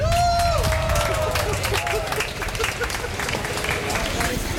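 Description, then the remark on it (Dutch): Sustained audience applause for 90-year-old women as they are introduced by an announcer, dense rapid clapping with crowd noise and a few cheers, steady and loud throughout with some faint overlapping voices and a brief tonal whistle-like sound at the start. “En de volgende dame, ja, geef een heel groot applaus”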